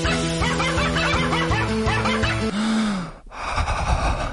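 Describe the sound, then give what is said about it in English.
A rescue dog gives loud barks that repeat in a quick rhythmic string at shifting pitches, almost like a tune, then give way to a longer drawn-out bark and a brief pause. “Gabe the dog is a rescue.”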